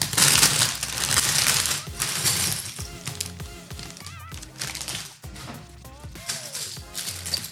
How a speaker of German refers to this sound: So, Achtung, Leute, es wird laut. Tütchen 2 raschelt.